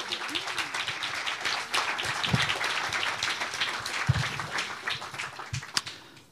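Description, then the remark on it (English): An audience applauds steadily after a poetry reading, many hands clapping in a dense, crackling wash that holds for several seconds with a few louder individual claps standing out. “Thanks, and a round of applause.”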